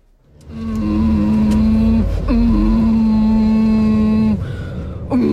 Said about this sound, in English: My God, it's coming from you. I thought it was the engine. It's my ujjayi breathing. It's a yoga thing. Calming.